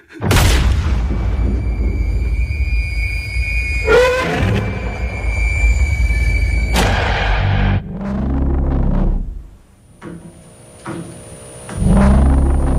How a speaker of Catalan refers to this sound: Ja comença amb un tret, això, per tant, malament, eh? Fatal.